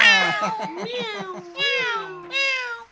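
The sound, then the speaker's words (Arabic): A cat meows several times in a row, drawn-out wavering calls that rise and fall in pitch, fairly loud with short gaps between them and no talking. “أجل أحبتي، مضى الثعلب يحمل القطة فقابل الأسد في الغابة.”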